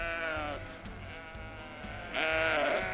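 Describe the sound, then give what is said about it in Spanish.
A flock of 600 sheep bleating, several overlapping voices calling, with a loud wavering bleat rising near the end and a steady murmur of other animals underneath. The flock is kept by the town council to prevent fires naturally and regenerate the soil. “Sí, es un rebaño de 600 ovejas para prevenir incendios y regenerar el suelo.”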